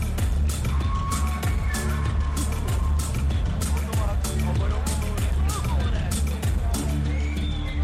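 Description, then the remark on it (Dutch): Dense crowd chatter fills a busy hall, picked up by a microphone standing in the middle of the hall, many overlapping voices merging into a steady, loud murmur with scattered short knocks and clatters throughout, no single speaker standing out. “Het is een beetje begonnen hier en ja, de microfoon staat midden in de zaal, dus het is een beetje herrie.”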